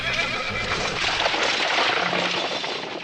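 horse neighing

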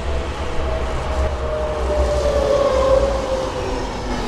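tram passing by

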